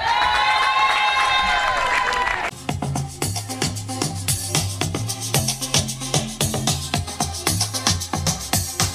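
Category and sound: crowd, crowd applauding and cheering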